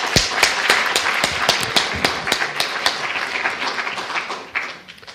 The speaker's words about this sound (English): Big applause.